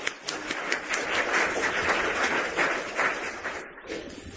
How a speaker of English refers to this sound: One round of applause.